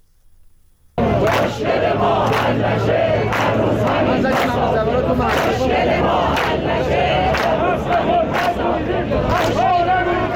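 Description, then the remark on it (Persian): Social Security retirees chant loudly at a rally in Iran on the second day of protests against the government's decision on a 10% pension increase, many voices shouting together in a steady, rhythmic cadence after a quiet first second, with sharp periodic accents punctuating the dense roar. “بازنشستگان تأمین اجتماعی امروز برای دومین روز در شماری از شهرهای ایران در اعتراض به تصمیم دولت جمهوری اسلامی برای ایجاد افزایش 10% مستمری بازنشستگان غیر حداقل بگیر تجمع کردند.”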